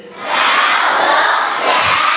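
A group of children shout an answer together in one loud, sustained burst, their many voices blending into a single roaring call that swells quickly and holds steady for a couple of seconds.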